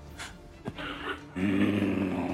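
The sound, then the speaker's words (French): A voice imitates a fire giant's deep growl: a few softer raspy breaths, then a loud, sustained guttural rumble that holds steady to the end, unaccompanied. “Il pousse un grognement et t'as l'impression de... Vous avez l'impression d'entendre un volcan qui est sur le point de, d'exploser.”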